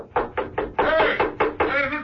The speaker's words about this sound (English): Mrs. Peel looked down at the floor. There was a pause. And then, the sound of Steed's umbrella banging beneath.